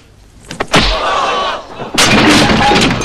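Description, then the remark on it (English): A sharp, heavy punch lands on a man, followed by a loud crashing thud as he falls heavily to the floor, with rough noisy clatter trailing after and a second burst of impact noise. “Mickey lands heavily on the floor.”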